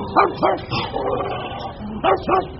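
Several dogs bark sharply in a pet shop on a street lined with pet shops in Baghdad, Iraq, where cages of animals block the sidewalks: four yapping barks in two quick pairs over a steady murmur of background activity, with faint whimpering between bursts.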